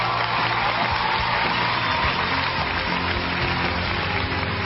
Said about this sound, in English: Thank you very much for the round of applause. I certainly do appreciate it.